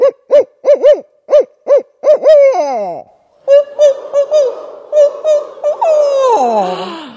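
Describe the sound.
A group of people imitate barred owl hoots in a rhythmic series, a lead caller followed by the others answering back, ending in a drawn-out descending hoot. The calls are loud, with no ordinary speech.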